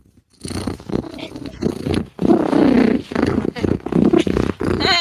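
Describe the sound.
A person's voice imitates a cat's purr: a loud, rolling rumble that comes in several bursts with short breaks, over about five seconds.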